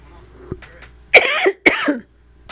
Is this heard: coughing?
yes